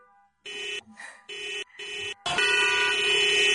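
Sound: car horns honking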